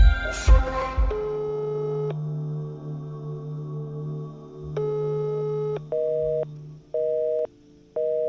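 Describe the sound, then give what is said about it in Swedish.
A phone line tone with no one picking up: a sustained electronic hum, then steady repeating beeps in even pulses, clear, with no voices. “Varför svarar du aldrig när jag ringer då?”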